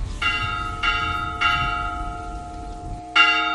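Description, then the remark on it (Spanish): Church bells in rural Spain ring out in a peal in protest against rural depopulation, four loud strikes at roughly even intervals, each leaving a long shimmering hum that overlaps the next, with low background rumble and no voices. “El repique de campanas ha sonado en muchas zonas rurales para denunciar los problemas a los que se enfrenta la España vaciada.”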